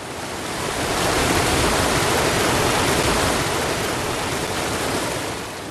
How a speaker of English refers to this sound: That river, broad and deep, moves ever east, past Nowth, Douth and Newgrange, under the Mary McAleese Bridge, through Drogheda, and meets the sea at Mornington.